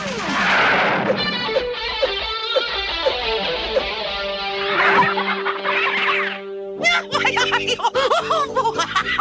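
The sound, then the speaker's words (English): An upset duck squawks in an agitated, nasal outburst, loud, with a drawn-out cry that breaks into a rapid flurry of choppy quacks near the end. “The duck's upset, man.”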